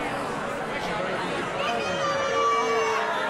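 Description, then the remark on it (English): A large crowd at a concert fills the air at a steady loudness, a dense wash of many people singing along together, with sustained tones rising out of the mass in the second half. “Oh, and then the crowd gets involved.”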